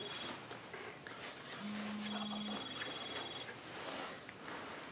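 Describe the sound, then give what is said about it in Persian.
A mobile phone rings with thin, steady electronic tones over a hissy background, plus a brief low hum partway through. No one speaks. “شب کتاب ورق بزن نزا بخوابیم، بعدم موبایل تو روشن بذار، حجره رو بذار رو سرت.”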